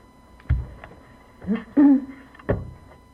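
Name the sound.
bird call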